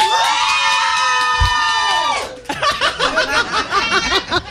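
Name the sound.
audience cheering and shouting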